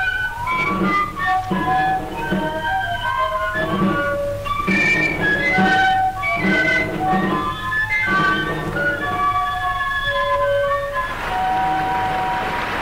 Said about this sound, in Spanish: El aire se puebla con el temblor de los pañuelos a los sones de la dulce y primitiva melodía. Como silvestres caramillos, los silbos de los istus impulsan el ceremonioso ritmo.